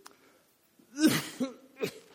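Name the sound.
cough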